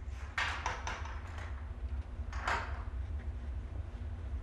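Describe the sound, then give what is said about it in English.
A front door swings shut with a cluster of knocks and rattles, then a second sharp clack about two seconds later as the lock is turned, all over a steady low rumble. “She goes over and shuts it, and turns the lock.”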